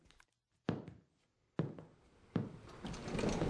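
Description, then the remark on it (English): William Morris's Kelmscott Press at work, reprinting The Well at the World's End on unbleached handmade paper and vellum: three heavy, evenly spaced mechanical thunks, each with a brief rattling decay, followed by a steady rising clatter of machinery. No one speaks. “I thought you would like to see Kelmscott Press in action.”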